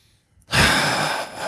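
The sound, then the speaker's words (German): After a brief silence, a single long, deep belly breath is drawn in, a loud, airy rush that holds steady for about a second, with no talking. “Und wirklich auch in den Bauch zu atmen.”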